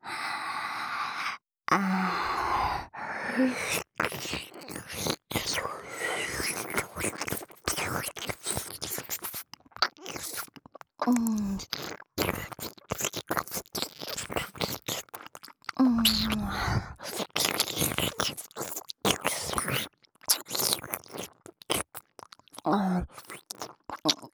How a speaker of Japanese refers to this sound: 吐息とよだれの音、ただそれだけで支配されてしまうんです。